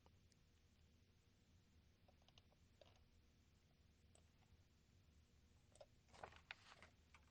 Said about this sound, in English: Researchers in the Caribbean say the clicking language used by sperm whales actually reflects a kind of alphabet.